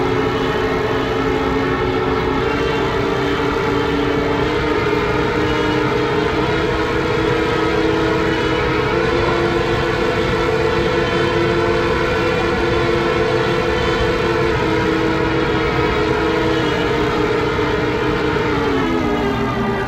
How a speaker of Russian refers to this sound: Сирены, специальные сирены, которые имели крыльчатку такую, она раскручивалась набегающим потоком в пике, и выла. Как сирена, по-моему. Сирена.